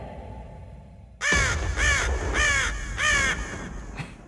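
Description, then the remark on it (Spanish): A crow caws loudly, four harsh, rasping calls in steady succession followed by a brief fainter fifth, with no one speaking. “La noche de anoche, un cuervo mágico voló a las cuatro esquinas del mundo conocido en busca de los conocedores más farsantes del mundo de los videojuegos”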